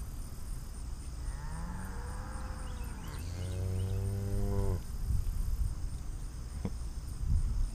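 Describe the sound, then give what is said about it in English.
Cattle moo, a couple of drawn-out lowing calls rising and falling over a few seconds, set against a steady chorus of chirping crickets and outdoor ambience. “There's one.”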